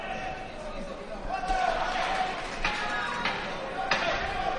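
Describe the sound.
A crowd of about 300-400 spectators in a hall cheers and shouts encouragement at a world championship semifinal fight, in a steady murmur of voices, broken by several sharp thuds and ball bounces at irregular intervals.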